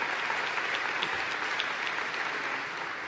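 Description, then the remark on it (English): A dense round of applause from a sizable crowd at an event in Buffalo, given for SBA officials, steady and fairly loud throughout, with many overlapping claps forming a continuous wash of sound and no voices. “And now let's give them a round of applause.”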